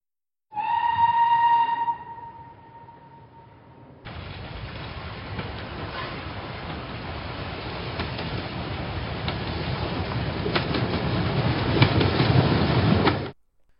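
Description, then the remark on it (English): A short, steady whistle blast, then a misty white train with skeletal soldier guards rumbles along the tracks on its way to Lincoln's final resting place, with a broad roar and faint periodic clacks, growing gradually louder before cutting off. “Clusters of people gather every year to try and catch a glimpse of a misty white train, complete with skeletal soldier guards, as it glides past again and again on its way to Lincoln's final resting place.”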